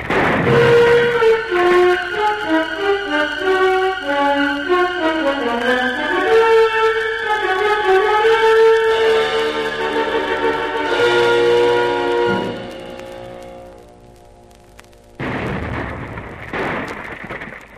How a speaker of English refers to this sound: It's definitely shellfire. I don't like the sound of it.